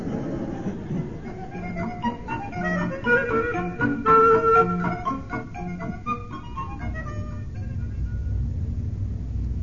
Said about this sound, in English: There's always the engine room, of course. Perhaps the steady rhythm will lull you to sleep. I doubt it, sir. You haven't heard our engines.